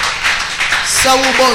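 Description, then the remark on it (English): An audience claps their hands to the glory of God in a dense, steady patter of many overlapping claps, fairly loud throughout, with a voice rising over the applause toward the end. “Even as once again you clap your hands to the glory.”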